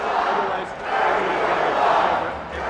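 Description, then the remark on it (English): A large crowd of progressive voters at a Democratic unity tour rally with Bernie Sanders and Perez roars and cheers in a sustained, dense wash of voices, swelling twice over a few seconds with no single voice standing out. “The DJ quickly puts on a new song to drown out the cheer.”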